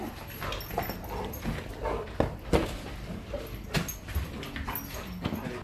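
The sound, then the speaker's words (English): A guide dog named Quigley, a 4.5-year-old Labrador retriever, whimpers softly in short, high whines, with scattered brief bumps and rustling sounds around it over several seconds; no one speaks. “His guide dog”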